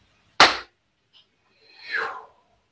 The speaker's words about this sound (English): So I'm going to clap to seal the work after the count of three. You're welcome to clap with me if you wish. One, two, three.